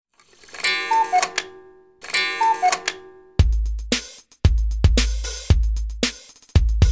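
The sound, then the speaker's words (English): A loud, steady clock tick-tock, evenly spaced sharp clicks with a low knock, starting after a short bright chiming figure that plays twice. No voices. “Tick tock. Tick tock. It's 8 o'clock.”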